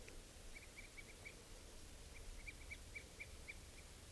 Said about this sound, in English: I've tagged two birds, and they're all up in the treetops. See the birds, there's a bunch of type 2s in there, in a lodgepole pine.